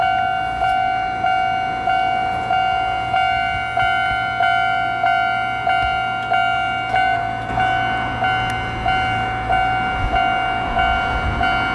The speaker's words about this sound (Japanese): さあそして、改札口がありまして、 はいはい、 おちょうど電車が来ましたね。